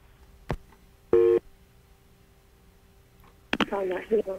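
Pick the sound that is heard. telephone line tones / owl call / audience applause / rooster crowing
telephone line tones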